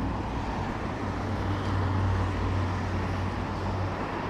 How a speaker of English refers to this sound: are in the little park bit, which seems to be a giant roundabout. There is literally traffic right above us and traffic all around.